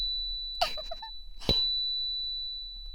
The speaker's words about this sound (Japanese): どんなに気持ちよくなっても、この音叉が鳴っている間は射精できないから、覚えておいてね。